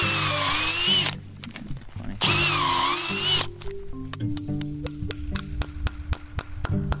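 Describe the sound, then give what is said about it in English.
A power drill whines loudly in two short bursts, boring a hole into a tree in a sugar bush for sap, then gives way to a run of sharp, evenly spaced taps and knocks, with no talking. “So each year we drill a hole in the tree and we try to pick a good, clean area where there's no dead wood and it's far away from where we've drilled holes in past years.”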